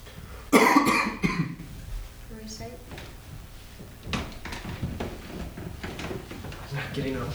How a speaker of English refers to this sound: Getting up. Shifting in my chair.